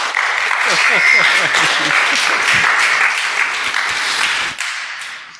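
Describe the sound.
An audience breaks into a dense, steady round of applause for a speaker about to share from God's word, many hands clapping at once with some voices mixed in, holding strong for about four seconds before tapering off abruptly.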